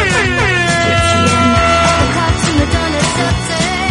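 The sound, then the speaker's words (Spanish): A loud air horn blares continuously with stacked harmonic tones, layered over a busy, rhythmic musical bed with thumping low beats, no talking. “Dale a la bocina y vamos a por ese viernes arriba.”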